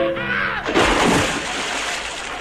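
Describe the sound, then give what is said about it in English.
Recorded at sea: a loud splash of sea water bursts in after a brief tonal hum, then settles into a steady, hissing wash of churning water that continues to the end. “Recorded at sea.”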